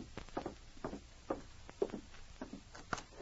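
knocking on a door

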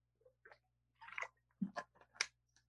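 drinking water

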